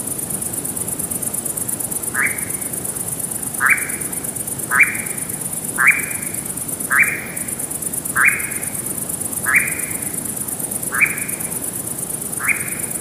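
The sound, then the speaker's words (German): A monotone churring bird call, repeated as a steady series of short, buzzy notes at a regular, even pace over a constant high hiss, with no talking. “Denn du hast dann zwischendurch, du hast dann das Schnurren, das Monotone, was wir jetzt schon kennen.”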